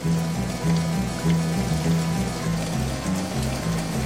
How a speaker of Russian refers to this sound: Но однажды пошел проливной дождь. Промокли бабочки и стали искать, где бы укрыться, а дождь все льет.